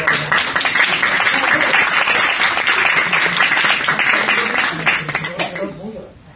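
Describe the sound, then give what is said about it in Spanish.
A crowd applauds steadily, a dense, loud wash of many hands clapping with some voices mixed in, holding strong for several seconds before thinning out and fading at the end. “Sí, un aplauso.”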